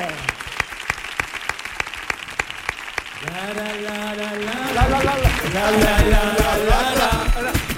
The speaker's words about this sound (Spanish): fuerte el aplauso